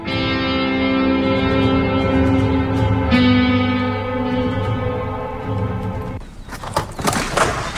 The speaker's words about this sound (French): Oh, des bruits de pas.